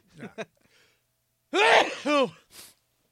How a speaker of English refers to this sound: God bless you, Santa. Hold on. Santa's got to sneeze.